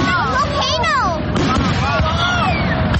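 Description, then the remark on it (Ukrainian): Festive fireworks in Toronto light up the sky, filling the air with a steady, loud roar, several whistling shells gliding up and down in pitch over dense crackling and booming. “Це у Торонто яскраві вогні, які освічують небо, святкові феєрверки.”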